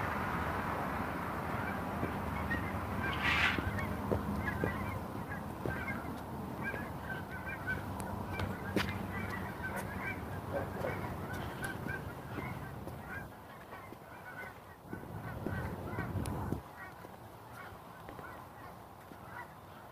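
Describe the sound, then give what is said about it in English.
A flock of geese honks steadily, with repeated overlapping calls over a continuous outdoor rumble; no one speaks. “geese. I don't know if you can hear them.”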